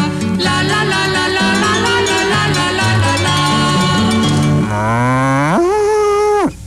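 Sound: cow mooing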